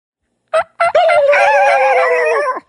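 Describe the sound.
A turkey hen's soft tree yelp made on a hunting call: two short clucky notes, then a longer drawn-out, strongly pitched yelping phrase, fairly loud with no talking.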